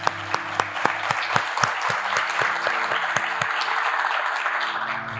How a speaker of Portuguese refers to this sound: Eu quero que fique registrada a presença de vocês, então eu quero pedir uma salva de palmas para os melhores ouvintes do mundo, vocês.